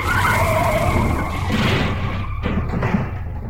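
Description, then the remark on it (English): A loud, continuous skidding screech with wavering high tones, like tyres sliding on a surface, ending in a thud around the middle and then fading into a rough rumble. “The eagle has landed.”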